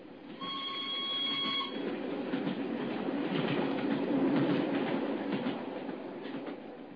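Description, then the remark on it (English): The single carriage of a special train roars past at Canterbury with a loud, sustained rumbling clatter, a steady high whistle-like tone sounding over the noise for the first couple of seconds, then a continuous heavy rush of wheels until the end. “As we hid behind a pile of luggage at Canterbury, we saw the single carriage of the special go thundering past us.”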